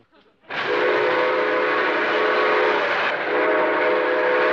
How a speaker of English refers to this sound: Not only can you play music on it, but by pressing the proper keys, you can also hear your favorite sound effects, such as bird calls. Train effects.